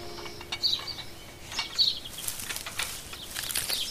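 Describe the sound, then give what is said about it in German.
Rustling and fluttering like a bird flapping its wings, in short irregular bursts, with a few faint high chirps amid an outdoor background. “Was war das? Sicher nur ein Vogel. Oder ein Kaninchen.”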